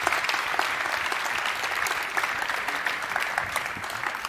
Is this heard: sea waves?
no